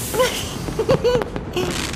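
Large, colourful fireworks going off: several quick bursts and crackles over about two seconds, mixed with short high whistling tones, with a steady background hiss and no voices.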